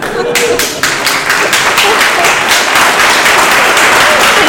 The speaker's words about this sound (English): So, in appreciation of your stepping forward to serve on the board, I think that we owe you not just a round of applause, but a thunderous standing ovation.